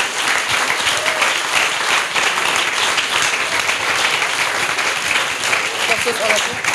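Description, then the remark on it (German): Sustained applause from an audience, a dense, steady crackle of many hands clapping at an even loudness for several seconds. “Für die einen herzlichen Applaus.”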